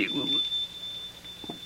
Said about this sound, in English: Of course. That is the tinkle of the shop bell. Shop bell? Yes, sir.